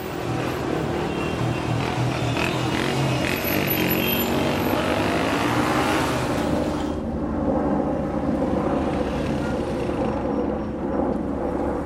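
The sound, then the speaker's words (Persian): A motorcycle engine drones steadily and loudly throughout, mixed with rushing wind noise as it rides along; the hiss softens partway through while the low rumble continues. No one speaks. “تو با این موتور رو با مونده. داداش نمیشه تونتر برین؟”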